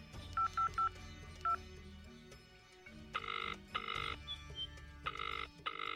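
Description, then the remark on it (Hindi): Four quick telephone keypad beeps sound in a short burst as someone phones a doctor, followed by longer repeating electronic tone pulses, like a line ringing, all clear with a low hum underneath. “उनको फोन लगाते हैं।”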